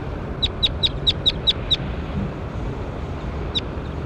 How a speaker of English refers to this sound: That was bird 21.